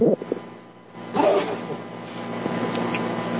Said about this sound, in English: Excuse me, I had to sneeze. I hope that didn't go out over the air.